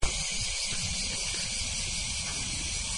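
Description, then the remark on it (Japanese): A dense, steady chorus of cicadas in Kyoto, Japan, in August drones continuously, a bright shrill buzz filling the air at even loudness throughout, with no voices present; bear cicadas (kumazemi) and large brown cicadas (aburazemi) are mixed in. “もう日本のね、夏には欠かせないミンミンシャワシャワというセミの BGM に乗っかってですね”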